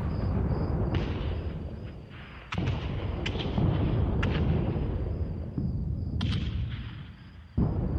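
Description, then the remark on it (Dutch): Heavy gunfire and shelling around the Bossenweg near Café de Ketting during the Allied offensive: a constant low rumble of bombardment punctuated by sharp, loud blasts at irregular intervals, with crackling bursts of shots between them. No voices. “De omgeving van de Bossenweg bij Café de Ketting komt zwaar onder vuur te liggen.”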